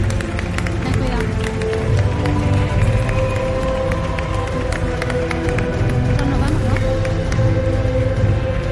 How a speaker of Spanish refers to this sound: Muchas gracias por el esfuerzo. Gracias. Otro aplauso. Que se lo merecen.